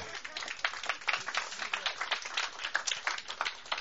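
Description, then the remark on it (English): An audience claps together in a steady, dense patter of many hands, sustained at an even, moderate level for the whole few seconds without pausing. “Oh, we can clap.”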